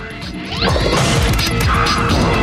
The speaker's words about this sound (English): A ball thunders towards the pins.